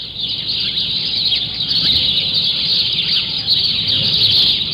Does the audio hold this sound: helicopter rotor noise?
no